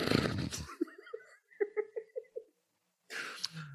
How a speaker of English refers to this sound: Are you breathing in, out?